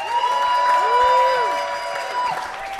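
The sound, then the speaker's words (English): Audience applause for the winner of the 2018 Polaris Music Prize fills the whole stretch at a steady, fairly loud level, mixed with cheering voices and a few rising whoops over the clapping. “And without further ado, how about a round of applause for the winner of the 2018 Polaris Music Prize”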